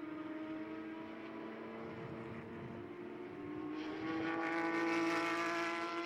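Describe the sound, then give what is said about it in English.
A race car engine drones with strong steady harmonics, pitch holding as the car sweeps into the hairpin at turns five and six, then rising and growing louder with brighter upper tones as it accelerates out onto the inner straight. No speech. “Down through two to three, sets the car up very nicely as he sweeps in to that hairpin at turn five and six.”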